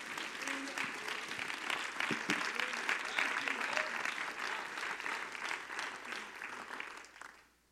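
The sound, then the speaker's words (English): An audience at a church service claps their hands for the word of God in a steady, dense round of applause that holds level for several seconds, then fades out at the end, with a few voices faintly mixed in. “Would you clap your hands for the word of God?”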